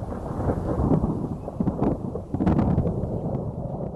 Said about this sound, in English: Her grandmother also taught her to pay attention when in the wilderness, like now as a storm approaches. If there's a lot of thundering like that, the traditional Navajos would just leave.